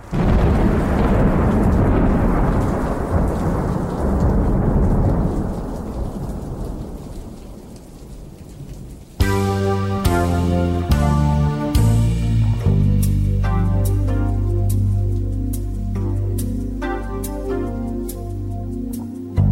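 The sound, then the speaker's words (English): Steady heavy rain with deep rolling thunder fills the first half, loud, then gives way to music with bright plucked notes over a low bass. “There's a storm moving in.”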